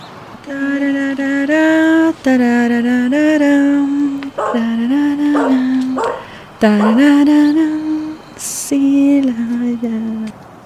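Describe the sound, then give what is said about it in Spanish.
A dog barks and howls at night in about five drawn-out, wavering calls with short pauses between them, loud, with no people talking. “Solo la luz de la luna y el ladrido de algún perro la acompañaba en su recorrido.”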